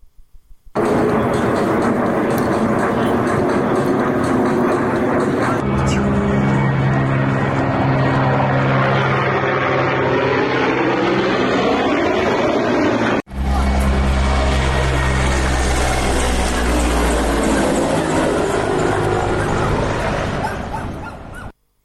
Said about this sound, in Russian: Ну, а то, как российские самолеты заходят на отработку подконтрольных Украине городов, регулярно снимают на видео жители оккупированной территории Донбасса. Например, в прошлые сутки армейскую авиацию видели даже над курортным Седово и Урзуфом.